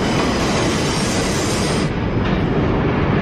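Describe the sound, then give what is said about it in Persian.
A train rumbles past, a loud, steady roar of wheels on rails with a faint metallic hiss, continuous throughout with no voices. “مشغول بشید، باید این تا قطار بیاد.”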